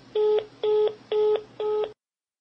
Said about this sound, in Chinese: 两天后，张振龙先生耐着性子再次拨通电话。